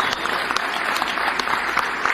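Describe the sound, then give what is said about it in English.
Steady audience applause during a talk by Professor Arthur Brooks, a dense wash of many hands clapping at a fairly loud, even level, with occasional sharper individual claps popping out of the continuous patter. “Finally, the applause I've been waiting so long for.”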